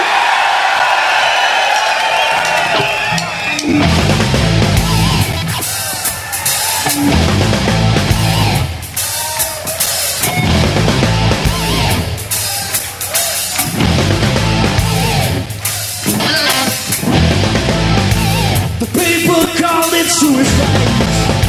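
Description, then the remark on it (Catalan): A live concert audience cheers and yells in a loud, sustained roar after the band asks for noise during a recorded show, with whoops and shouts rising and falling in repeated swells for the whole stretch. “We're recording tonight, so I want some noise off you people.”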